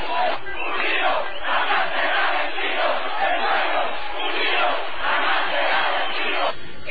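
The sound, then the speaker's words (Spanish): A large crowd of protesters around Miraflores in Caracas roars and chants continuously, a dense wall of many voices shouting together with swelling surges, loud and sustained throughout with no single speaker standing out. “estos brotes de manifestaciones que hemos visto están muy muy localizadas a los alrededores de Miraflores, por supuesto, y también en las entradas y salidas de esos barrios populares.”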